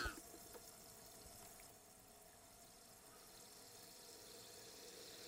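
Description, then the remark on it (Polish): An electric kettle heating water with citric acid to descale it, a faint, steady rushing hiss with a low bubbling rumble that holds evenly throughout, after a soft click-like onset at the very start. “No i grzejemy wodę.”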